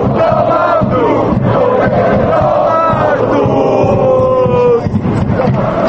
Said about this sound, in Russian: все это вызвало гнев болельщиков, которые теперь во время матчей скандируют речевки, содержание которых по отношению к главе кабинета министров не назовешь доброжелательным.